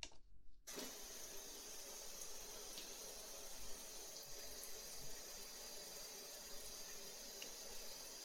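running tap water

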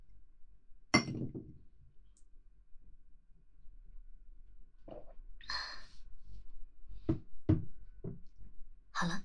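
glasses clinking

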